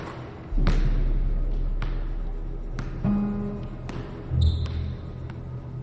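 A basketball bounces on a hard court as someone shoots hoops, in a few irregular, thudding impacts, with sharp squeaks of sneakers and a faint low rumble between the bounces.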